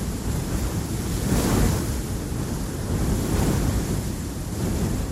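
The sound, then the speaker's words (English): Waves break over a shore in a steady, roaring wash, swelling into two broad surges, with wind noise blowing across the microphone and no voices. “sea cliff and listen to the wind whipping sand over the brush, it sounds just like waves breaking over a shore.”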